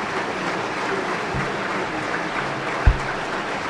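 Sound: audience applause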